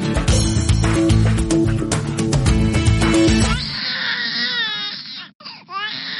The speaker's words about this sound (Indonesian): Bayi Anda sering menangis di malam hari?